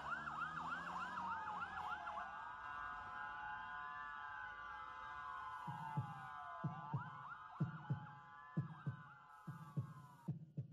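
A slow, steady heartbeat of deep, paired thumps comes in partway through and repeats to the end, sounding under a wailing siren that rises and falls throughout. No one speaks.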